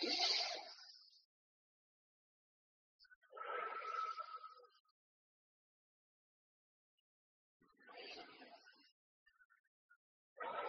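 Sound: slow deep breathing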